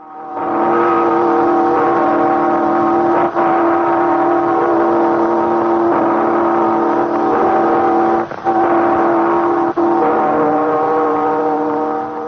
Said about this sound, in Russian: Послушайте редкую запись 1926 года. Звучат колокола звонницы Юрьевского монастыря под Новгородом. Звонница построена Растрелли в 1760-м, разрушена большевиками в 1926-м. Запись сделана за месяц до катастрофы на фоновалике.